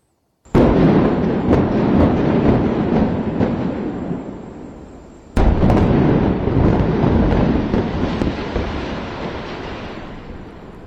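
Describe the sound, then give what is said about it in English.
Controlled demolition of the remaining structure of Champlain Tower South by demolition crews at night: a sudden loud blast gives way to a long roaring rumble, then a second sharp blast brings another heavy rumble that slowly fades. No voices. “Last night, in a controlled explosion, demolition crews finished what the still undetermined structural failure began.”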